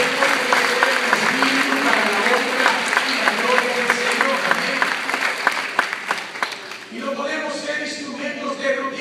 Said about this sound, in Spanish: Lo que quiere crecer más, que den un aplauso grande a Jesucristo.